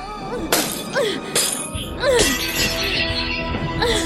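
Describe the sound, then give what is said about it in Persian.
Protective glass is smashed with an emergency hammer: several sharp, loud strikes in quick succession, each bursting into crackling, tinkling shards that keep rattling between blows. “یه محافظه شیشه رو با چکش استراری بشکن.”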